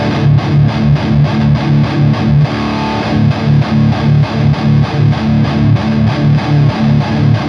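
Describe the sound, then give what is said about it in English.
Electric guitar played through an amp with no overdrive pedal, chugging out fast, steady rhythmic chords with a gritty, crunchy edge. Loud and continuous, with no one talking. “Yeah, so here's no overdrive.”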